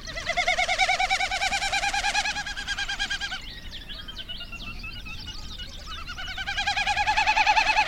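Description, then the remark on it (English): A Wilson's snipe calls in two long bursts of rapid, pulsing, hollow notes, separated by a stretch of fainter chirps. Moderately loud, clear, and with no talking. “And a Wilson snipe.”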